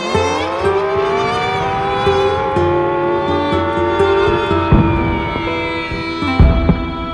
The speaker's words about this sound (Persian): توجه توجه، علامتی که همکنون میشنوید اعلام خطر یا وضعیت قرمز است و معنی و مفهوم آن این است که حمله هوایی انجام خواهد شد. محل کار خود را ترک و به پناهگاه بروید.